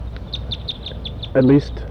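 wild birds calling

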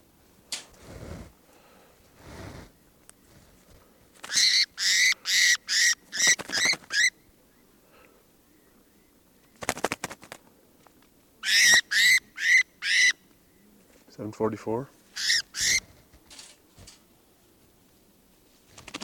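birds calling

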